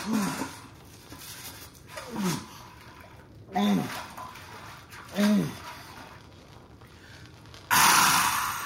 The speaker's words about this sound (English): Drops of water in bucket on ground next to him.